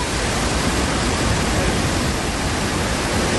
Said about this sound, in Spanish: Bueno, pues vamos a hacer una cosa, estamos en la radio, el viaje tiene que ser sonoro, así que empezamos con un sonido. Sonido muy potente, un rugido que no es otro que el de las Cataratas Victoria.